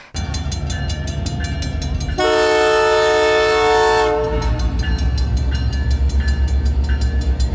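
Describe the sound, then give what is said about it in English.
A loud, sustained train horn blares for about two seconds as the Canadian Pacific Holiday train arrives through Lennoxville at traffic hour on November 24, over the steady rhythmic clatter of the train rolling past, with the rumble continuing after the horn stops. “To turn to a cheerful note, the honk of an incoming train at traffic hour proved to be one of great joy on November 24th.”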